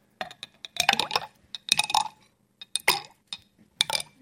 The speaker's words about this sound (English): Every time you're putting a stone in there, it's displacing some water and the water level's rising.